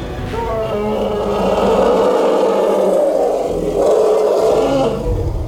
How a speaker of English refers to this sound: He let out a great wailing roar that shook the world around him.